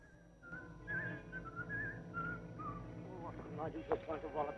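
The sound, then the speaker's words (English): An airman whistles a short, wavering melody in a wooded area for a few seconds, then a voice starts talking as the whistling stops. “Following the sound of whistling through a wooded area, he comes across another airman who's talking to himself.”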